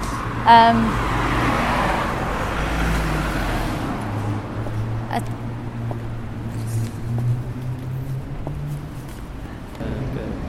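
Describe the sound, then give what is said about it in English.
Steady road traffic with cars and buses coming round a corner just past a Tesco, driving fast and flowing freely, a deep engine drone rising and falling under a continuous wash of roadway noise, with a brief sharp clatter near the start. “it seems like you nearly get run over, because just past Tesco's the cars come round the corner, so you can't really see them coming, and lots of buses come round here.”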